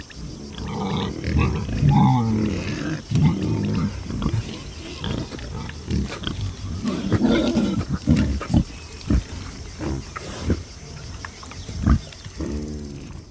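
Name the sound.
wild boars grunting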